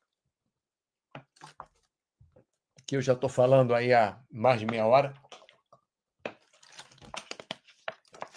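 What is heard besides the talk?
someone drinking water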